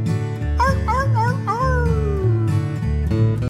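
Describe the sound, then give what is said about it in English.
A voice imitates a coyote, letting out a few quick rising-and-falling howls and then a longer one that slides downward, sung over steady bouncy music. “The old coyote howls.”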